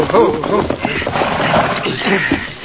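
Horses' hooves clip-clop to a halt as three riders rein up in front of a big ranch house on the Lazy Y ranch, the steady clatter of several animals, with murmuring voices mixed underneath on a muffled, narrow-sounding recording.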